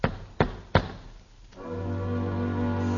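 Three firm knocks on a door in quick, even succession, followed by a short pause before steady, sustained instrumental music begins.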